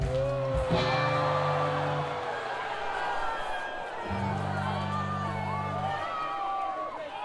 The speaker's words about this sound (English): Hold on a second. You booed that more than my Joseph Smith joke.